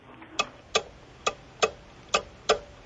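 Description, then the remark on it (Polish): Steady mechanical ticking of an old pendulum cuckoo clock, six crisp clicks at an even pace of roughly two per second, clear against a quiet background with no voices. “To zegar z kukułką, ale kukułka pewnie jest później.”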